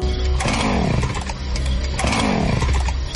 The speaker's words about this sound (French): Regarde dehors, il y a un monsieur bizarre avec une scie mécanique et un masque.